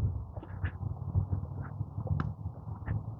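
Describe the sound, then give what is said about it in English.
Several sparrows in a tree chirp in short, scattered bursts, faint, over a steady low rumble of background noise. “Tree full of sparrows.”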